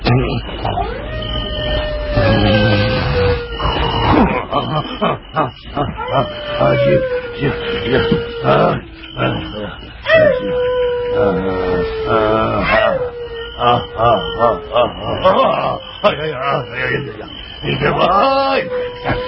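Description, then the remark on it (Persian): Wolves howl in long, drawn-out wails that slide downward in pitch, several calls overlapping one after another, loud and sustained against a busy background. “آقا شیره اون شب نتونست از مزاحمت گرگ بخوابه، همش کلافه بود”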